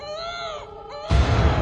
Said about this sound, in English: Do you hear your child screaming?